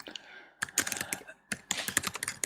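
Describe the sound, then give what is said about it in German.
Rapid typing on a computer keyboard, two bursts of quick clicking keystrokes separated by a short pause, fairly clear with no voices. “Jetzt lasse ich Apfelkerne fertig tippen, damit wir später sind.”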